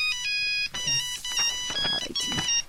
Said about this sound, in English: That was my cell phone alarm. It does that every day at 9 a.m. and at 9 p.m. When it rings, I take my ARVs.